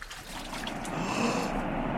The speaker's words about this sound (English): The water! It is parting, and we can cross on dry land.